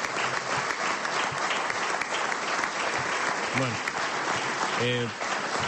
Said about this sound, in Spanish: Vamos, si les parece, a darles un aplauso a todos. Así que yo creo que lo merecen. No sé, un aplauso por lo menos.